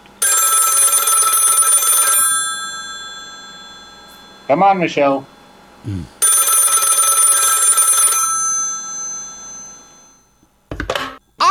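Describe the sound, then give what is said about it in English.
A telephone rings loudly in two long bursts of bright, jangling bell tone separated by a pause, as a call is made trying to reach Australian Communications Minister Michelle Rowland, with a short spoken phrase in between and more voices near the end. “So let's just get on our bat phone and, you know, this every day we've been trying to get hold of Michelle Rowland.”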